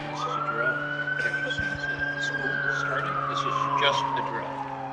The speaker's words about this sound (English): Students in grades 8 through 12 watched as a police car, ambulance, and fire engine pulled up to the scene of a head-on collision staged in the parking lot near the community pool.